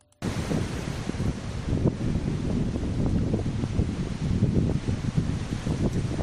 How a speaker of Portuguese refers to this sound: Así soplaba o vento esta mañá o carón da COPE aquí en Lugo.